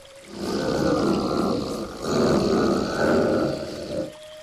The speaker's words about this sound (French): Son cri, je l'entends. Le matin, je me lève au cri de l'ours. Avant le chant du coq, avant la mélopée que susurre moteur et pot d'échappement, avant tout cela, j'entends le cri de l'ours.